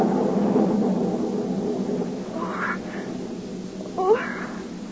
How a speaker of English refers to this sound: Oh. Oh. Oh, there. Oh. It was only thunder.